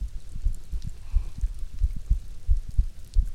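A steady heartbeat thumps low in paired beats at a calm, even pace, with a soft hiss of rain underneath.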